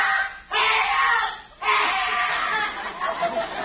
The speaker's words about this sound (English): What was that? That must be one of the tires yelling for help. That sound came from the building next door.